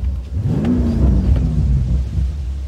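A car engine revs loudly while driving on smooth, undulating roads in the Palos Verdes hills, its low growl sweeping upward in pitch and then easing off, with a steady rumble throughout and no voices.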